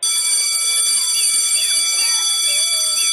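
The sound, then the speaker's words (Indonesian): A school bell rings steadily for the whole stretch, calling children into class, a loud, continuous high-pitched electric tone without a break, with faint voices in the background. “Anak-anak, bel sudah berdering.”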